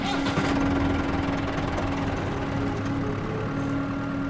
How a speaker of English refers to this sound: He pulls the tractor into the barn the way he has 100 times before.